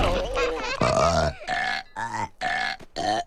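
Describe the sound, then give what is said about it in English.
Piglets belch in a quick run of about five loud, croaky burps, one after another with brief gaps, with no talking. “scowls at the belching piglets.”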